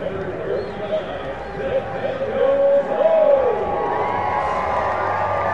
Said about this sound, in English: You hear the applause. It's Nathaniel Lowe. Reached on an error, which scored a run back in the fourth inning. And then came around to score.